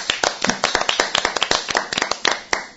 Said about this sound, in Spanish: Oye, un aplauso. Chicos, un aplauso. Hombre, un aplauso.